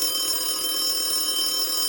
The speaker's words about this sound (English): The phone rings, and we stopped doing the puzzle.